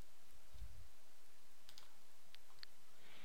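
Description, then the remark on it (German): A few faint, sharp computer mouse clicks spaced irregularly, with a soft low bump near the start and no talking, as a link is clicked to download a complete test result from a build machine to a local development machine. “Durch einen Klick auf diesen Link kann ich mir das komplette Testresult vom Build-Rechner auf meine lokale Entwicklermaschine herunterladen.”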